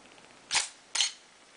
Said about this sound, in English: Okay, and then when you click the shutter, I mean, note now it's a very dark scene in front, and it's 0.3 of a second, so it's a really slow, or considered a slow shutter speed.